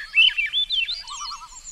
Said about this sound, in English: In the dense, rich forest, you might hear the fluty harmonics of the Swainson's thrush.